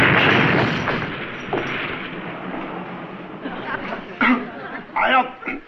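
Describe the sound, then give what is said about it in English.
A loud, sudden burst as an aerosol can is stepped on, with a broad hissing rush that slowly fades over about a second, followed by people talking and a few short sharp noises. “I don't think you're supposed to step in those aerosol cans, Chief.”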